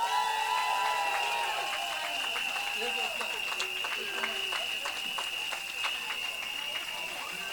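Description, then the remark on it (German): A crowd applauds steadily as interviewees leave the stage at an event, with many hands clapping in a dense, continuous patter for several seconds, mixed with a faint high whistle-like tone and indistinct background voices. “Und ihr könnt einmal die Bühne verlassen unter tosendem Applaus, bitte.”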